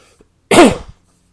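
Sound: cough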